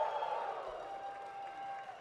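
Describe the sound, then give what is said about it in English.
A baseball crowd at a Brooklyn Cyclones game at night, late in the game, applauding and cheering, a steady wash of clapping and voices that holds at an even, moderate level for about two seconds without a break. “This crowd has stuck around tonight to the bitter end.”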